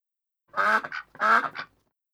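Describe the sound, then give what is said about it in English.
Ducks on a river quack twice in quick succession, each a loud, nasal call with a short clipped tail, heard on their own with no talking. “The ducks on the river came over to see the picnic.”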